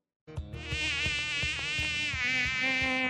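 A mosquito's high, thin whine drones continuously, steady and insistent for a few seconds with soft rhythmic low thumps beneath it; no voices.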